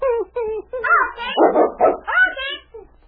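A dog named King whimpers and whines in a series of high, rising cries, breaking into a few short, rough barks midway, all fairly loud with no talking.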